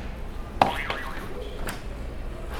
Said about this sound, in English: You can hit a buzzer for me.